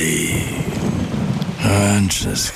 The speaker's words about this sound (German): Ja, ja. Regen. Ewig grau. Müssen Sie sich das anhören?